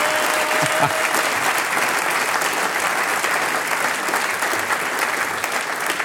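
A live audience claps steadily for several seconds, a dense, even wash of many hands close to the microphone with no voices on top.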